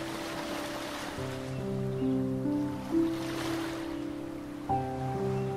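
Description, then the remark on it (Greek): Small sea waves lap and wash softly and continuously in shallow sea water, carrying a small toy boat, beneath steady, sustained musical tones whose chords shift every couple of seconds, with no talking. “Κυματάκια την παίρνουν και την πηγαίνουν σε μικρά ταξίδια.”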